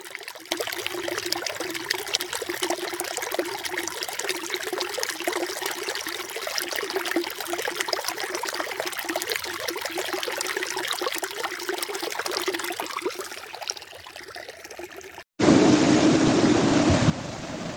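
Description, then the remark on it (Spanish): Water flows and trickles steadily along a stream, a continuous babbling rush. Near the end it cuts abruptly to a brief, brighter, hissing stretch of running water. “El agua recorrerá largos caminos y mucho más abajo una parte es tratada químicamente para potabilizarla y otra parte recorrerá caminos mucho, pero mucho más largos, dando vida a animales y plantas de las comunidades.”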